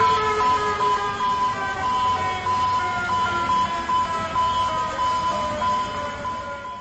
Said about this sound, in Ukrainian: Щойно ви чули звуки сучасного сигналу біди у Атлантичному порту Венесуели Каракасі.